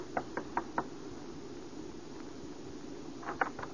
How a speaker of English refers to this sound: And White knocked on the door of her suite the following evening.